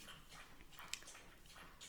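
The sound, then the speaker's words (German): A dog laps up water, with quick, repeated wet slurping bursts at an uneven rhythm and nobody talking. “Mein Hund trinkt übrigens gerade Wasser, also falls man das, ich weiß nicht, ob man es in der Aufnahme hört”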